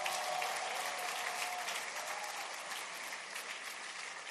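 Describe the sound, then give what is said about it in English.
A church audience claps steadily for Jesus during a morning service, a dense, sustained wash of applause at even loudness that tapers only slightly toward the end, with no voices standing out. “So one more time, will we give Jesus a big, big applause?”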